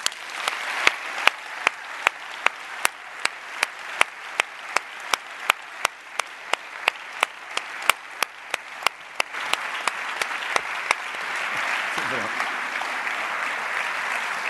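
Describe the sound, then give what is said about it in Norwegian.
An audience applauds to welcome Geir Liv Valla, with sharp, evenly spaced loud claps standing out over a dense wash of clapping that swells toward the end as the rhythmic claps fade. “Det jo applaus som om du skulle vært på LO-kongress.”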